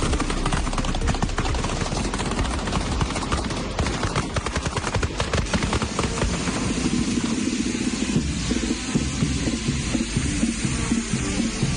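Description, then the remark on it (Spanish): Loud, rapid volleys of gunpowder firecracker bangs rattle continuously for several seconds, then ease into the steady, low roaring rumble of a burning bonfire with scattered crackles, at the burning of a bonfire in front of the Teatro Romea in the city of Murcia. “Así suenan la pólvora y las hogueras en Murcia.”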